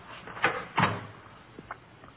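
door opening and closing

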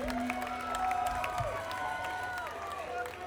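audience applause and cheering

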